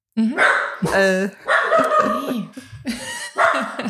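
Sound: dog barking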